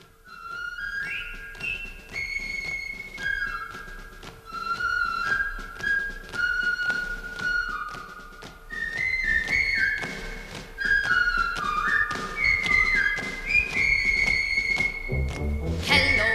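A bright, cheerful whistled melody carries a bouncy tune in clear, sustained notes that step up and down, with soft instrumental accompaniment underneath and a thump near the end.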